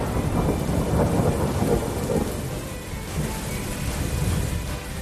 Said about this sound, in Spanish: Me han dado ganas de salir a la calle y ponerme así bajo la lluvia porque por fin cae agua de manera intensa en nuestra región, algo que no ocurría desde abril.